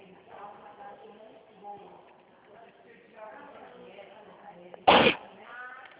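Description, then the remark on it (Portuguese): A single sharp, loud sneeze bursts out near the end, following several seconds of a person talking quietly; the person is sneezing often because the air is very dry. “Nossa, aqui tá tão seco, menina, que eu tô espirrando toda hora.”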